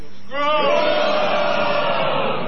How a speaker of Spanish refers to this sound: Pero usted pida. Por ejemplo, Corea del Sur. Corea del Sur. ¿No? Gritemos un gol de Corea del Sur. Gol de Corea del Sur.